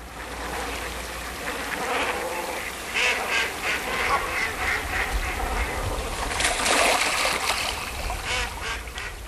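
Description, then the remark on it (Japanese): A dense chorus of ducks and geese calling over the open water of the Kamoike pond at Katano in Kaga City, where many of them spend the winter; overlapping quacks and honks in rapid bursts, steady, with a busier flurry of calls near the end. “加賀市片野の鴨池、多くの鴨やガンたちがここで冬を過ごします。”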